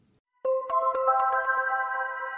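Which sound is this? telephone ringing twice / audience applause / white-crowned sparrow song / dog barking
telephone ringing twice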